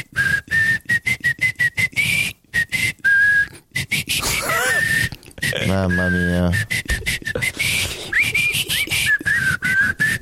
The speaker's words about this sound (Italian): Adesso fischietta la musichetta.